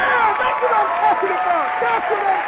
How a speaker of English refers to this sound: got to give my guests their applause